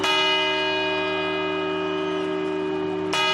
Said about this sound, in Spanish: El reloj de la Puerta del Sol se va a desmontar por primera vez en 30 años. Será en marzo y estas campanadas, las que escuchamos para dar la bienvenida a este 2025, serán las últimas que dará tal y como lo conocemos.